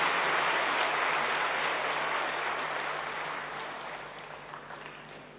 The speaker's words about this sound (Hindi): बहुत बहुत भाग्यशाली हो जो इस जनवरी महीने में, वो भी 18 जनवरी ब्रह्मा बाबा का अव्यक्ति दिवस मनाने के लिए मधुबन में पहुंचे हो। जरूर अपने लिए ताली बजाएंगे, हम कितने भाग्यशाली हैं।